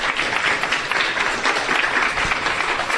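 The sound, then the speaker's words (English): Steady applause from an audience at a morning chamber members' event, given for the event's sponsors, a dense wash of many hands clapping at once, sustained and fairly loud without a break and with no one speaking. “Round of applause for our sponsors.”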